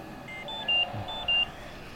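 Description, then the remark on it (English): A ventilator alarm, set off at night when the ventilator tube is crimped, gives two short, high-pitched electronic beeps about half a second apart, clear over a steady low mechanical hum, with no talking. “or crimps her ventilator tube with her leg and sets off an alarm,”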